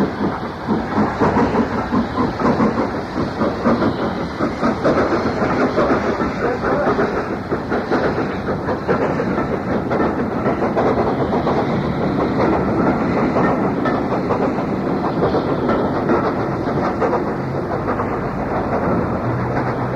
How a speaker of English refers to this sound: After a shrill blast and a whistle, it departs under the road overbridge, its distinctive three-cylinder exhaust beats echoing into the night.